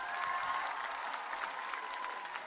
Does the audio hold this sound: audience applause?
yes